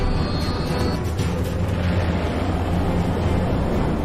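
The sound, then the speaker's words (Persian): Heavy, steady engine rumble of a warship's Alpha and Bravo engines at full power, all engines running as it drives full ahead, with surging water and wind noise washing over it, loud and continuous without a break. “موتورای آلفا و براوو با نهایت قدرت فعال شدن. همه موتورا روشنن.”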